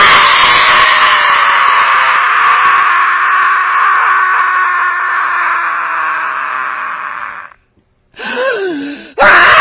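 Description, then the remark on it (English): A person lets out a long, loud, sustained scream lasting several seconds, as if falling, then breaks off briefly before a short wavering cry and another burst. No speech accompanies it. “How do you scream? You know, people scream when they fall.”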